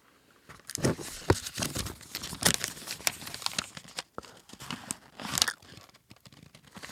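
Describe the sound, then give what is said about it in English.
Paper being handled and crinkled in a studio, a continuous stretch of irregular crackling and rustling bursts with sharp crisp spikes, no talking over it. “Well, let's do an experiment. Hold on, we have some paper in the studio.”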